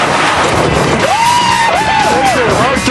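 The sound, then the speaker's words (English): The race car Hearse's engine roars loudly on nitrous oxide during a race, amid a dense rush of noise, its whining pitch climbing and then wavering up and down through the second half. “Hearse's engine is taking the nitrous oxide abuse.”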